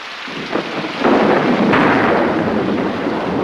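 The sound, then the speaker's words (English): Heavy rain pours down outdoors by a path in a dense, steady hiss that swells suddenly after a quiet start, with a deep rumble of thunder rolling underneath. No voices. “As it starts to pour, a man sprints by on the path, holding a wet newspaper over his head.”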